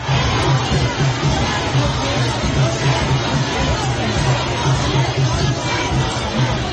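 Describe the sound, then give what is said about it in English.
A dense, loud crowd of protesters surging against police in London, many voices shouting and clamouring at once in a continuous roar with no single speaker standing out. “Here was a flavour of those clashes.”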